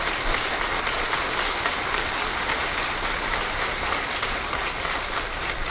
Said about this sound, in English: The applause is for the President, who has just entered the East Room.